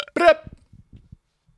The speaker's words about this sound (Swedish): La du på en lur där? Nej, jag rapade. Du rapade? Ja, men det hade varit ett bra avslut.